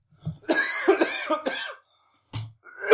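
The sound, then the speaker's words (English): A voice imitates a raspy, phlegmy cough as an impression of a sleazy man: a long rough hacking fit of several throaty bursts, then a pause and two more short coughs, fairly loud with no speech. “That coughing is in character.”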